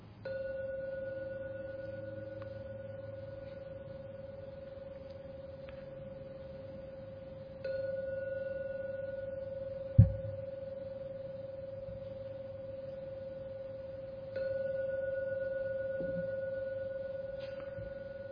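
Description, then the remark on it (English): A meditation gong is struck three times at slow, even intervals to end a meditation session, each strike a steady, pure tone that hangs in the air and slowly fades before the next. No voices are heard. “And please wait until the last ringing of the gong starts to disappear before you open your eyes to end the meditation.”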